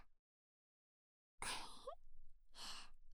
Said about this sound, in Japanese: お兄さん、あくび大きすぎ。